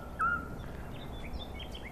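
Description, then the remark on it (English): A single short, pure whistled toot of a Scops owl rings out clearly among holm oak trees, with a robin singing and other softer high twittering birdsong scattered behind it over a faint outdoor hiss. “Those tooting sounds that you hear, along with the robin that's singing away.”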